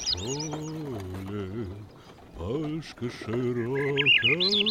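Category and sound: bird, birds chirping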